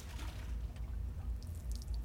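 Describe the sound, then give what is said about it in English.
A floppy mop plunges into a bucket of soapy water before washing a floor, giving a soft, steady slosh and gurgle with a low watery rumble and a few faint drips near the end. “Then he takes the floppy mop and dips it in.”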